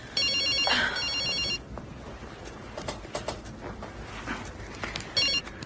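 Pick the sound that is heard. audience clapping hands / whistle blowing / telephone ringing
telephone ringing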